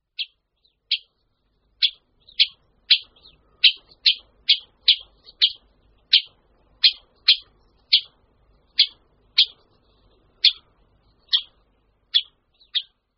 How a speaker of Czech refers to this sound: Slyšeli jsme volání dalšího z našich strakapoudů, strakapouda jižního. Tento druh je velmi podobný strakapoudu velkému, od kterého se poměrně nesnadno odlišuje a bývá tak často přehlížen.